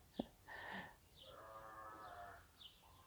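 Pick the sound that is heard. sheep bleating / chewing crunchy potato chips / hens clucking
sheep bleating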